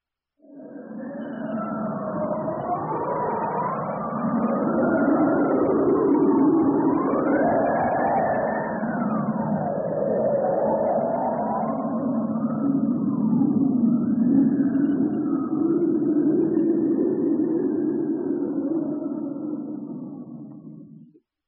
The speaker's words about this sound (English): Look at the snow. Listen to the wind.